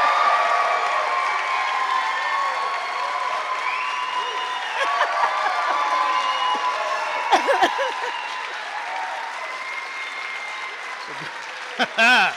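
audience applause and cheering

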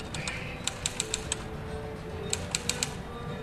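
typewriter typing

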